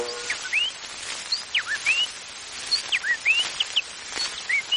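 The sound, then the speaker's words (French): Someone imitates a warbler's song with a quick, twittering run of high chirps and rising whistled notes, clustered in short bursts, fairly soft, with no talking. “La fauvette fredonne.”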